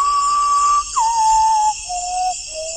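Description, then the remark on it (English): An ornithologist whistles an imitation of a common potoo's song within a potoo's territory during an evening birding session under a high jungle canopy in the Amazon: a long, pure held note followed by a series of descending, slightly falling tones, clear, with a steady hiss of insects behind. “whistles a song from within a common potu's territory, it responds by repeating the cry, the avian equivalent of yelling, "No trespassing."”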